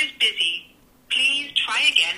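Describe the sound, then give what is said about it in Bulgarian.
A call placed on a phone's speakerphone reaches a busy line because the person called is talking with someone else, with a tinny automated voice coming through the phone's loudspeaker in two short bursts separated by a brief gap. “Сега аз ще опитам още веднъж да го избера пред вас. Пускам го на спик. А той говори с някого.”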